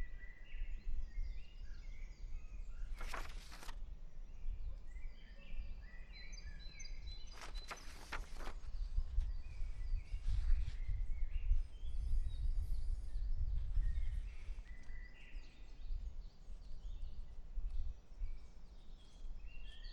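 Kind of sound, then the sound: bird, birds singing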